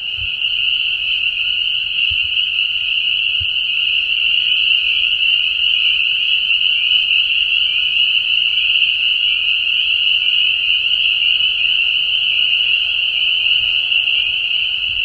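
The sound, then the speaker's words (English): A dense chorus of frogs calling nonstop, a steady high-pitched trilling wall of sound that stays loud and unbroken throughout, with no voices and only faint low rumbles underneath. “So some of the frogs make snoring noises, and that's what I thought I might hear.”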